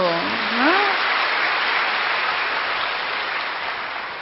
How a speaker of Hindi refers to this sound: कब करेंगे? अभी करेंगे, ताली बजाओ।